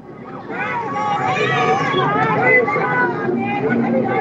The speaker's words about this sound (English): It's blacks cheering on Trump. Cheering on Trump.